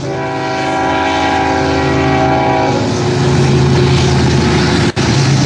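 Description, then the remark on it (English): A train passes on tracks at night. Its horn blares loudly for a few seconds, then a steady, heavy rumble of rolling cars continues, with no voices. “There's a train right behind. There's a train tracks behind us.”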